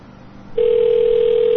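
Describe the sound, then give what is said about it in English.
After about half a second of faint line hiss, a steady, fairly loud telephone ringing tone begins and holds unbroken to the end, as a call rings out to a CoCot payphone. “Well, fuck, let's call it. Hold on. Calling the CoCot.”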